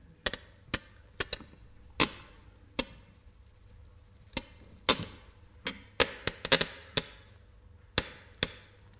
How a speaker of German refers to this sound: Man kann Klicks machen. Klicks ist so die artifiziellste, kürzeste Klangeinheit, die wir so kennen wahrscheinlich.